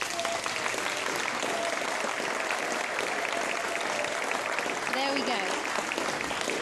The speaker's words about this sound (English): And you children, when he's walking up and down, I want you to give him a clap. Okay? So everyone's going to give him a big clap. Okay? Walk up and down, everyone give him a big clap.